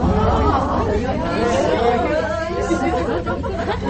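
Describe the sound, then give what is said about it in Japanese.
A group of passengers in a ropeway gondola chatter and cheer excitedly as it passes the descending gondola at the midway point, many voices overlapping in a lively, steady babble for the whole few seconds, with no distinct mechanical noise standing out. “で、中間点で下ってくるロープウェイとすれ違う瞬間はこんな感じ。”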